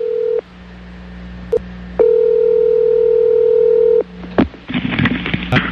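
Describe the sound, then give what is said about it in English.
A telephone call to a sex rehab clinic in Hattiesburg, Mississippi: a line tone hums in steady, even bursts separated by silences, with a brief dialing click between them, followed by a clatter of handset noise as the line picks up. “So we thought we'd call that clinic and see if we can talk to Tiger.”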